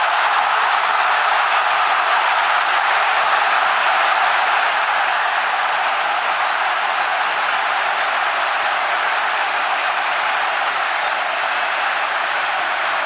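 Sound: football crowd cheering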